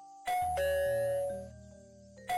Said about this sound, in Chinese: 但是十几分钟以后，刺耳的门铃响了起来，我的心一下子提到了嗓子眼。